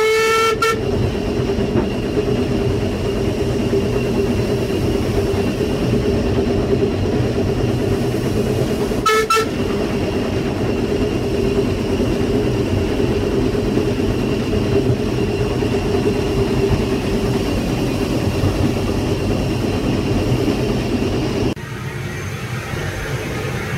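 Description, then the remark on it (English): A locomotive running light engine labors up a hill at speed, approaching the Cranbourne Road crossing, with a steady, heavy rumble and droning tone. Two short horn toots sound, one at the start and another partway through, and no one speaks. “And we can now approach at speed to keep the ball rolling. Yep. A lot of momentum to get up the hill, even light engine.”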